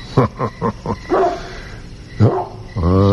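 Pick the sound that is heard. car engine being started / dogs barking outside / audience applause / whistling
dogs barking outside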